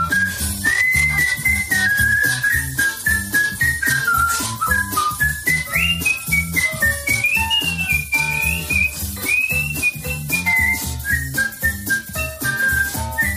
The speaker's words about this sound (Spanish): quien escucha silbar es …, lo hace bien